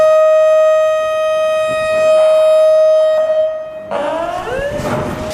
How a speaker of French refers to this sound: Alors quand l'alarme sonne, la vente commence.